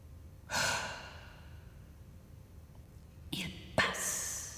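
Airy breathing: a long exhale that fades out, a quiet pause, then a quicker breath in and a second sighing exhale. No one speaks.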